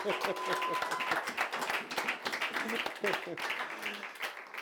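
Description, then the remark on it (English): People at a church worship service clap and applaud steadily for several seconds for a musician who played during worship: dense overlapping claps with scattered voices and a few cheers mixed in. “Can you clap for”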